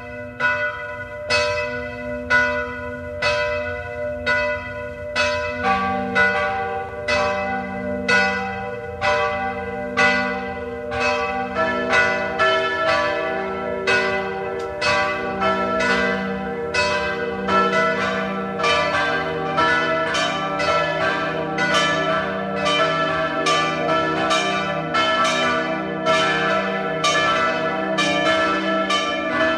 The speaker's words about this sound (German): Es ist 12 Uhr. Sie hören die Glocken der Wallfahrtskirche Maria Hilf zu Ebenthal bei Klagenfurt.